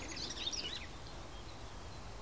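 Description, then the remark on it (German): Two bird species, several individuals, sing at once in a quick burst of high, thin chirps and twitters during the first second, faint over a steady wind rumble, then only the wind remains. “mäßige Qualität des Mikrofons plus den Wind plus meine Stimme und dann 2 Vögel gleichzeitig. Also 2 Arten gleichzeitig, mehrere Individuen gleichzeitig.”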